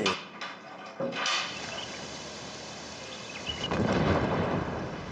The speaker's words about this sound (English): That's an explosion. Yes, it must be a mortar launch. We learn to recognize mortars, car bombs, and aircraft fire quickly here.